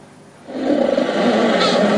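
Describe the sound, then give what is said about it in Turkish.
A dancing honeybee's sharp piping, recorded with a sensitive microphone: after a quiet moment, a loud, buzzy, steady tone starts and holds without a break to the end, with no voices. “Hassas bir mikrofonla dans eden arının sesini bakın kaydediyorlar.”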